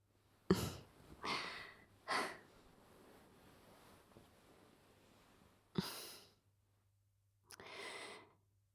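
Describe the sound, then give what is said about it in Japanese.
Soft breaths blown into the ear in a slow series of airy puffs, several in a row with quiet pauses between, intimate, with no talking. “息を吹きかけるだけじゃ足りないよね。吐息だけじゃなく、キスをしてあげないと。”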